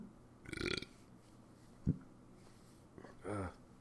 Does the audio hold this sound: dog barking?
no